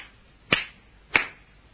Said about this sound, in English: Understand? He clapped three times.